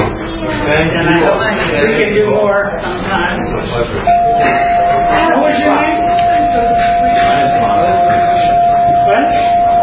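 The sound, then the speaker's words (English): A bell is rung to end a session. It starts partway through and holds one steady, sustained tone to the end, sounding over many murmuring voices and chatter. “I'll ring the bell to end this one, and then I'll ring the bell to start the next one.”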